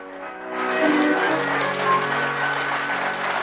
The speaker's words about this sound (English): Praise God. You know, to give the Lord a hand is the greatest thing that you ever done. They clap for presidents, for great celebrities, but when you clap your hand for Jesus, that's the greatest thing that you ever done.